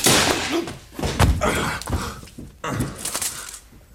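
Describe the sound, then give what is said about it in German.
A wooden chair smashes apart in a scuffle: several loud thuds and cracking knocks in quick succession, with rustling and shuffling movement between the impacts. “Schade um Ihren schönen Stuhl, Herr Professor.”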